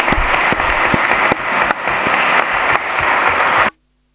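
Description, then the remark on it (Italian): A council session audience applauds steadily in tribute to Vania, with dense, loud clapping and a few sharper claps standing out, then the applause cuts off abruptly, leaving a faint low hum. “E per Vania un grande applauso, sinceramente, con tutto il cuore.”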